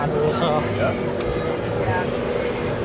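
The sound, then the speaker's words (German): A party boat passes by, its engine a loud, steady rumble under a dense wash of crowd noise and chatter that never lets up. “Sie singen, sie trinken, sie brutzeln, sie es fährt gerade ein sprichwörtliches sie. Partyboot an uns vorbei.”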